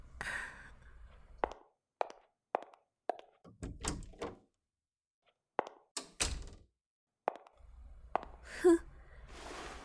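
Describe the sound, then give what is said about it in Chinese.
A drawer in a tenant's room is handled by the landlord to check it: a series of sharp wooden knocks and thunks, then scraping slides as it is pulled open, with short pauses between the bursts of movement. “我作为你的房东，我连查看你的抽屉的权利都没有吗？”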